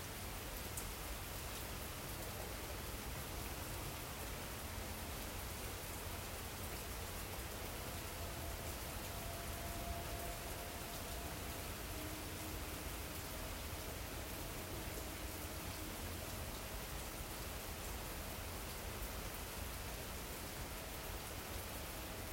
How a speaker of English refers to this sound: So when we go within, we can notice the rain, right, within our ears, the sound. We can bring all attention and awareness to the sound.